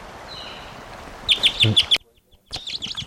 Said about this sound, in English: Wild bird. It's like a female. Stop. Recording that bird still around, just took off.